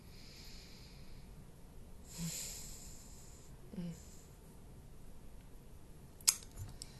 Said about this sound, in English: I probably have two more swigs of this left. I won't make you listen to all of that, but as a weird little moment.